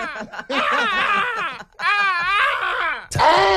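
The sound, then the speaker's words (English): A person in KwaZulu-Natal imitates a hadeda ibis with loud, wavering, nasal wails in three long bursts, the pitch warbling up and down, with brief gaps between them and no talking. “On the way next, I think we're going to listen to some people in KZN impersonating Hardy Dogs.”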